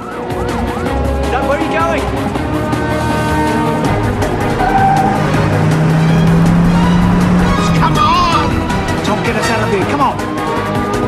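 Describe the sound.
A frantic police car chase, a ball of flames in the police car's wake as it meets the Russians coming in the opposite direction: revving engines and sirens wail together in a dense, loud mix, with voices faintly mixed into the roar throughout.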